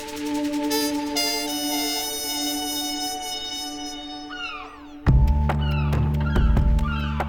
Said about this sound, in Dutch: Hoor maar, de meeuwen.